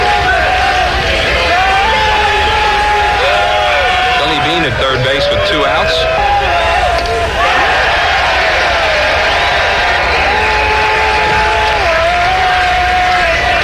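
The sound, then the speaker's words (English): A loud baseball stadium crowd roars and yells steadily throughout at a Phillies game against L.A., riding batter Derek Bell, with cheers swelling and whoops rising above the din while a man commentates over it. “and the crowd's getting into it.”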